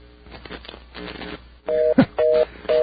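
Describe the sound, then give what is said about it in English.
Murmured background noise gives way to loud, steady telephone line tones sounding in repeated bursts with short gaps, plus a brief click between them, clear on a phone line, shortly before a reorder signal. “It's going to sound fast for a reorder soon.”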